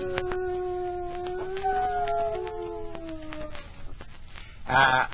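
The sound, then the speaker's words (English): A dog howls in imitation of a coyote, a long, wavering howl that glides slowly downward for several seconds, followed after a brief pause by a short, sharp yelp. Fairly loud. “My dog, Whiskers, he played the part of the coyote”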